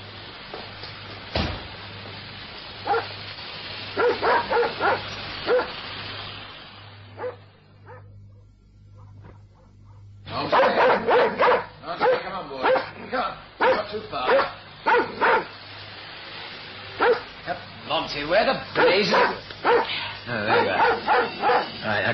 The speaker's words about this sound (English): And there goes the dog.